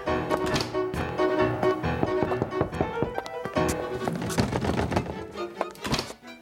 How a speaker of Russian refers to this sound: Я пойду постучусь к нему, мамочка.